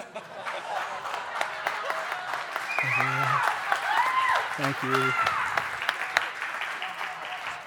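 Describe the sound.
An audience applauds steadily throughout, a dense patter of many hands clapping, while a man's voice speaks briefly over the top of it.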